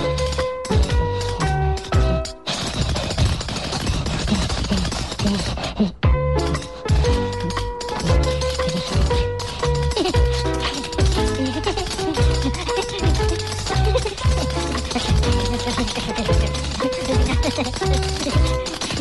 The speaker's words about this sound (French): Je vais danser la claquette. Tu vas danser la claquette? Ben vas-y tout de suite, on te regarde.